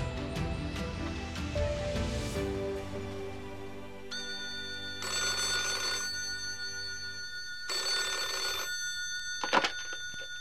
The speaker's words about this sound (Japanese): 姉貴、姉貴、電話、電話だぜ。